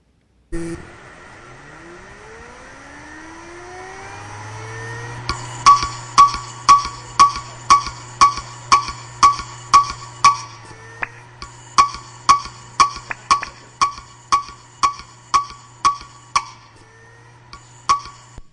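A failing hard drive whirs up with a rising whine, then settles into a steady low hum while its heads clack sharply about twice a second, pausing briefly before the clicking resumes.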